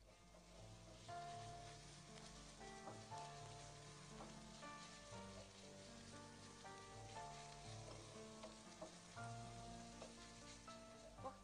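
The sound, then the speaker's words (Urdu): Minced meat sizzles and crackles steadily in a hot pan, a continuous frying hiss with occasional sharper pops and faint stirring sounds, no one speaking. The mince is fried only lightly so its moisture stays in, and is stirred slowly with a spatula or spoon. “قیمے کو بس اتنا بھونا جاتا ہے کہ اس کا پانی خشک نہ ہونے پائے اور گوشت کی نمی اپنی جگہ برقرار رہے.”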